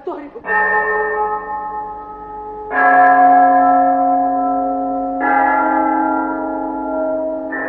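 The bell of St. Mark's Cathedral tolls in slow, evenly spaced strokes, each heavy clang leaving a long, humming resonance that carries into the next strike, loud, with no voices.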